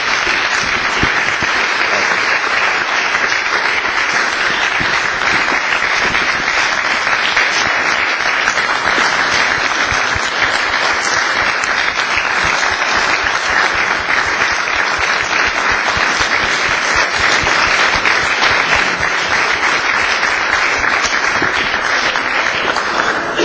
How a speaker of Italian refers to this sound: Credo che un applauso possa suggellare questa conferma.